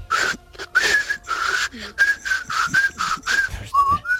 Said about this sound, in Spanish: No, porque hay formas de silbar. O sea, hay gente que silba, por ejemplo, yo tengo, soy discreto, yo hago un silbido, digamos, qué bonito, es un trino bonito, pero así de andar por casa, ¿no? Sí. Voy a hacer una demostración. Vamos allá. Por ejemplo.